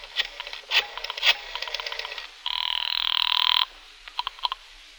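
A telephone rings once on the line, a loud buzzing burst lasting about a second, set between scattered clicks and taps like a receiver being handled, as a call is made from a phone booth outside a tobacco store. No one speaks.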